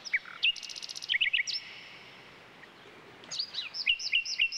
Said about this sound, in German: Ein solcher Vogel ist, wie der Name schon verrät, die Nachtigall. Sie ist ein scheuer Singvogel, den man nur selten zu Gesicht bekommt, dafür aber umso besser hören kann.